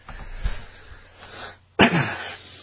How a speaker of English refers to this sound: Excuse me, guys. I'm trying to stay away from the microphone when I'm coughing here, doing the best I can.